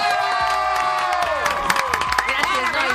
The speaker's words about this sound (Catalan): Aplaudiment per la Carot!